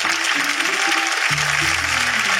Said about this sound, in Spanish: Un fuerte aplauso para …, por favor.